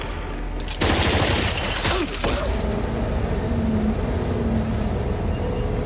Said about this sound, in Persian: ماشین گرفتم، دارم میام اون سمت. ماشین در حال حرکته، ببین جلوی ساختمون.